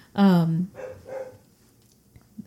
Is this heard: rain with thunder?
no